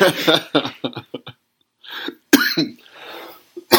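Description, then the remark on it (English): A loud fit of coughing: a run of short, harsh bursts, a pause, then one sharp explosive cough trailing into a raspy, breathy rattle, with a final quick hack at the end. “I'm so sorry about that cough, guys.”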